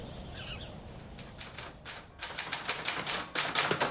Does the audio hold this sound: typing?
yes